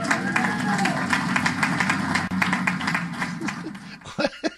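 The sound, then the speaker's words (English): A crowd in Seattle applauds with steady, dense clapping for about four seconds, a couple of excited whoops rising over it, before the clapping thins out and stops; the applause follows the announcement that Seattle will be first in the nation to hit 70% vaccination of those 12 and older. “Not just applaud. It got a woo from a couple of people.”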